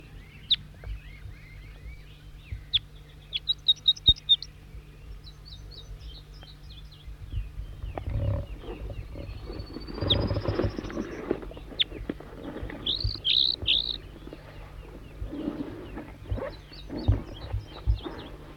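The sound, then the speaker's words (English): A wild bird sings in short repeated phrases of high chirps and trills, answered by a similar phrase, over a steady low hum with some rustling and a few sharp clicks. “Three and back responding with the same song phrases. Wild bird.”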